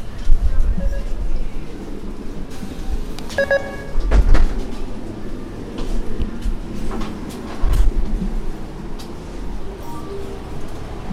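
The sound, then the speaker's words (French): Steady rumble of a metro train ride in Rennes, France, heading into the city centre, with a brief electronic chime and a couple of heavy thuds like sliding doors closing, faint background voices mixed into the moderate, continuous noise. “Ensuite, je prends le métro pour arriver dans le centre-ville de Rennes.”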